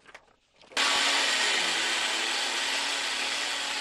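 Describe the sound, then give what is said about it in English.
After a brief quiet moment, a power drill suddenly kicks in and runs loudly without pause, its motor hum dipping slightly as it bites into plywood, as people in Puerto Rico drill plywood over windows to prepare for Tropical Storm Dorian. “People in Puerto Rico are drilling plywood over windows in preparation for Tropical Storm Dorian.”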